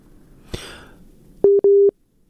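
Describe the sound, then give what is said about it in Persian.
A brief rustle or click, then a steady electronic busy tone sounding in two short beeps, loud and clean, before falling silent, as a phone call is cut off. “فکر میکنم که تماسشان قطع شده.”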